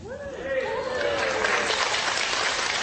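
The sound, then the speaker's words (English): A crowd breaks into steady, loud applause for a 31st wedding anniversary, swelling and holding, with a few voices whooping over the clapping at the start. “That's the card right there. Your applause.”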